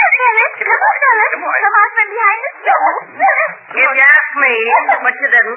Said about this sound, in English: I would say that you should all sit down, and when the dog gets tired of playing hide-and-seek here in the kitchen, he'll quit and go back in the living room.